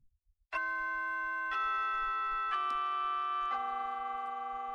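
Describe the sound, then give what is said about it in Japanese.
A school chime rings four sustained bell-like tones in a descending pattern, each note ringing on and overlapping the next, with faint ticking underneath and no voices. “あ、チャイムが鳴ってる。”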